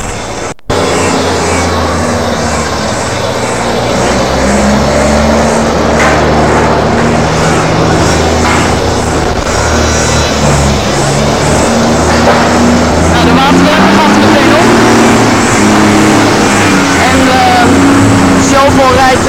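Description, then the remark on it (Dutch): A heavy vehicle engine rumbles and revs loudly as it drives at a barricade, pushing forward steadily for the whole stretch, with a dense wash of crowd noise and voices underneath. “Rijden de barricade aan.”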